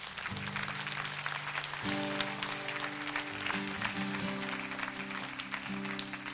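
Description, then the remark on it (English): A large crowd claps steadily and loudly throughout in praise of God, a dense wash of many hands, while sustained organ or keyboard chords ring underneath and shift partway through. “Would you give God a hand clap of praise?”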